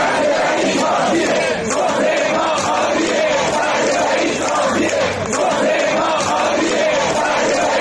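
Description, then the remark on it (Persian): Dozens of nurses and medical staff from Sanandaj hospitals rally on a Saturday in front of the governorate building in Sanandaj, Kurdistan, protesting unpaid wages and benefits: a loud, dense wall of many voices chanting and shouting together, steady and continuous, with rhythmic surges in the collective yelling. “ده‌ها پرستار و کادر درمان در بیمارستان‌های شهر سنندج مرکز کردستان روز شنبه در اعتراض به عدم دریافت حقوق و مزایای قانونیشان مقابل ساختمان استانداری این شهر تجمع اعتراضی برگزار کردند.”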